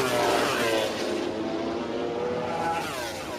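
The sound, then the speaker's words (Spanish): Racing motorcycle engines roar loudly and continuously, their high, buzzing pitch sweeping up and down as several machines rev and accelerate together, with no voices. “Con una cierta tristeza, los seguidores a las motos cierran una temporada más y esperan que se vuelvan a encender los semáforos de la próxima para volver a oír rugir el sonido de...”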